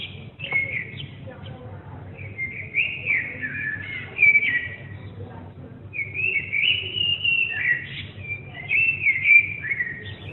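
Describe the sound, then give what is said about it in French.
A common blackbird sings long, fluting, warbling phrases with brief pauses, clear, over a steady low urban rumble, recorded in a courtyard in central Paris, France. “Ce merle, je l'ai enregistré dans ma cour à Paris, en plein centre de Paris, alors que je ne l'avais jamais entendu auparavant.”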